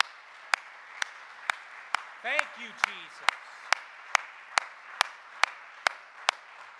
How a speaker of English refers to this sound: Would you give him a hand clap of praise before you're seated?